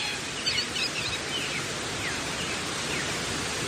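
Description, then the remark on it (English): A steady, hissing wash of leaves and fronds blowing in the wind, even in loudness throughout, with a few faint high bird chirps early on. “I've heard sounds being made by plants as they're acted on by, for example, people chopping them down, or like right now, you might even be able to hear it, the sound of many different leaves and fronds blowing in the wind, which is a very beautiful”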